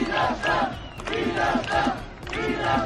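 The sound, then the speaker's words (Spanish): A large crowd of protesters in the streets of Vienna, Austria, shouts for freedom in unison, their chant rising and falling in steady, repeated bursts roughly every half second to second, loud and continuous throughout. “Gritos de libertad por las calles de Viena y disturbios por segunda noche consecutiva en Países Bajos, en Rotterdam.”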